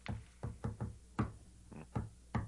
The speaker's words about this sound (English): I made it. Now I have to give the inner door the secret code knock.